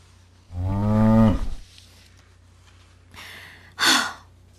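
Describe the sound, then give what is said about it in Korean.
A cute sleeping calf lying down gives one clear moo with a strong harmonic tone that swells and then falls away. After a pause come two softer breathy snorts or exhales. Nobody speaks. “에드워드가 그 물체를 향해 더듬더듬 기어가자 그곳엔 귀여운 송아지 한 마리가 누워있었다.”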